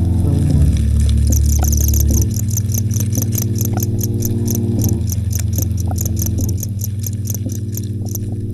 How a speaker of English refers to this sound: And so yesterday I went down to the pet store and I bought some more crickets, and I brought them home and I just put them in a peanut butter jar and I waited for them to chirp.